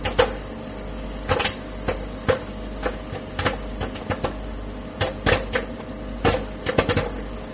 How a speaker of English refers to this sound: Place the popcorn bag in the center of the oven, this side down, then set time for 2 minutes on high. Then stay by the microwave and listen for the popping.